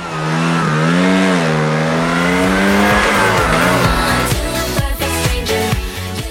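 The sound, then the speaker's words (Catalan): Loud racing engines rev and whine, pitch sweeping up and down in a sustained roar that shifts into choppy, rapid gear-like bursts toward the end, with faint tire squeal mixed in. “Esperem a que s'apaguin els motors i comencem!”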